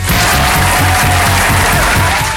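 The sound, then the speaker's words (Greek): Dense, steady applause from a crowd, a loud continuous wash of clapping for a couple of seconds, with a low rhythmic thumping underneath. “Χειροκρότημα, θέλω χειροκρότημα.”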